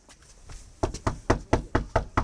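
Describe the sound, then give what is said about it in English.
Knocking on a door by Baltimore mayoral candidates canvassing for votes: a steady series of about seven firm, hollow raps after a faint, quiet start, evenly spaced with no voices. “They're knocking on doors, making phone calls, and attending forums all across the city.”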